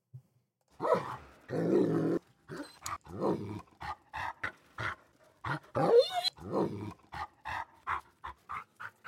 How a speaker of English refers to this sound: dog panting.